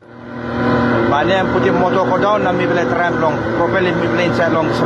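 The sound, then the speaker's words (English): A boat's motor drones loudly and steadily, straining as it pushes through a dense layer of pumice rock floating on the sea surface at Baon Village on Low Island, Manus Province, Papua New Guinea, with indistinct voices mixed in over the constant engine noise. “At Baon Village on Low Island in Manus Province, a boat struggles to push through a dense layer of pumice rock floating on the surface of the sea.”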